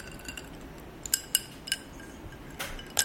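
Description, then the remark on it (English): Ice cubes clink against a glass in a few sharp, bright taps while a Negroni cocktail is being mixed. The taps are spaced irregularly over a quiet background hiss and are fairly soft. “Is this enough ice?”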